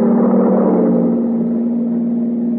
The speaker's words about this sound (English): Is that a car coming? Not the truck.